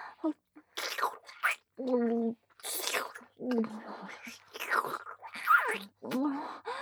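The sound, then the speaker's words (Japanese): Heavy breathing: a run of loud, breathy exhales and whispery gasps, with a few short voiced moans mixed in, coming in uneven bursts with brief pauses. “息遣いも荒くなってきています。”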